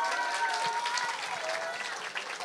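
An audience claps steadily, a dense wash of many hands with a few faint cheers riding on top, sustained at an even level for a few seconds without talk.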